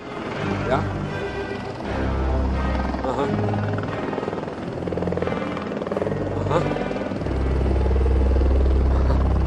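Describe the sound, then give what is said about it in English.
A loud helicopter drones steadily throughout, its rotor thrum and engine whine filling the scene, with muffled voices faintly audible beneath the continuous roar, as a man steps off the chopper. “So as soon as he has stepped off the chopper, Logan gets a call from Rhea.”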